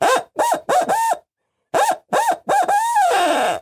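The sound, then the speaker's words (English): An eight-note owl hoot blown on cupped hands, opened wider for more volume: four quick, loud hoots, a short pause, then four more, the last one drawn out and sliding downward. Clear, with no talking. “So that's how I use the owl call.”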